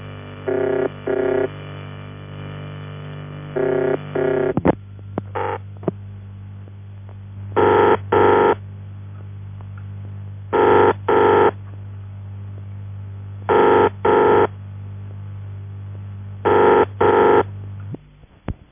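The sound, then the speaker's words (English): The ringing tone of an old UAX7 telephone exchange's ringing machine: repeated double bursts, ring-ring then a pause, over a steady low electrical hum, with the thin, band-limited sound of a phone line and no voices. “In the last case, this type of machine seems to be only fitted to the UAX7, and therefore it's very characteristic.”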